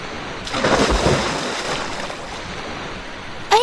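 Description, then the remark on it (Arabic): Steady wash of sea waves with a broad surge of water noise swelling early on as a ship passes over the sea surface, then settling into continuous surf with a brief higher tone at the end. “ذات يوم كانت الأسماك تسبح في ماء البحر، وإذا بسفينة عبرت من سطح البحر وألقي منها برميل أصفر.”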